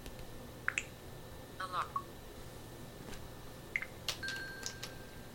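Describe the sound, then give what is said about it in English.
A phone test alarm set for 21:26 gives off a few short, high electronic beeps at irregular moments over a faint, steady tonal hum, with soft background noise between them. “Yeah, now there that's it is. The alarm.”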